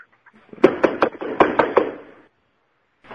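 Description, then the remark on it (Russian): Someone raps on a door in two quick sets of three firm knocks, fairly loud, followed by a pause of silence. “Постучите в дверь, потому что, может быть, он отошел в туалет.”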